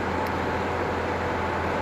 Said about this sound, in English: Join me live on the Yorks train station.